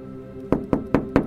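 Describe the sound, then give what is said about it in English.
Four quick, evenly spaced knocks on the glass window of a popular high street phone shop after dark, sharp, ringing slightly against a faint background hum with no talking. “I'm going to knock on the glass.”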